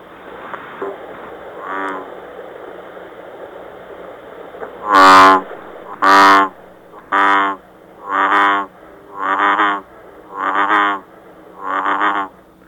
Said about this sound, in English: I think it's probably from maybe a bullfrog, but I'm not totally sure. The bullfrog, you know, they say it kind of sounds like a banjo. Oh. I'll play a bullfrog for you.